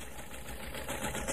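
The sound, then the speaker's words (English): A sewing machine runs steadily while a dress is being sewn, its rapid mechanical clatter and low motor hum holding a fairly even level throughout, with no voices present. “Hey, what are you sewing?”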